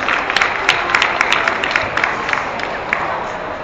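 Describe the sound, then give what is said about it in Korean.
An audience claps steadily to welcome a poet of the Daegu Writers' Association who will read a poem about the Yongsan tragedy, a dense patter of many hands with scattered sharper claps, holding at an even moderate level for several seconds without any talking. “큰 박수로 환영해 주십시오.”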